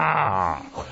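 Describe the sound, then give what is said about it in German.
A voice imitates the monstrous growl of approaching Rakshasa demons, a loud, rough, drawn-out snarl that tails off into a shorter guttural grunt, with no other sounds around it. “Das grausame Knurren und Grunzen der Rakshas.”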